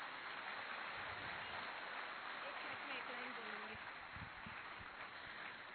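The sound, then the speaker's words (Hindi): Steady, dense crowd applause for a dance drama performed on stage by young girls fills the whole clip at an even level, a continuous wash of clapping with faint voices murmuring underneath. “और बहुत बहुत सुंदर इन कन्याओं ने आज का सुंदर नृत्य नाटिका की, जोरदार तालियां।”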